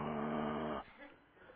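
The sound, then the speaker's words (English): A person imitates a dog's growl with a low, rough, sustained rumble in the throat for just under a second, then it drops off into quieter breathy noise. “You know, it's this low kind of, you know, vacillating, reverberating kind of sound. I chose the word rumbling.”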